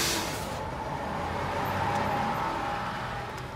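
A bus pulls up at a bus stop, its engine a steady, fairly loud rumble with a thin whine running through it for a few seconds, and no voices.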